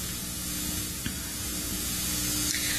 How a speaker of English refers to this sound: So the real-time clock, that's probably what I'm picking up, and it just blasts its existence all over my FM radio stations.